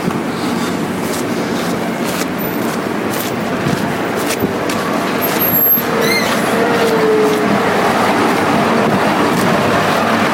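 A heavy vehicle's engine drones steadily and loudly throughout, with clutch and air-brake sounds, including a short sharp hiss of released air about halfway through.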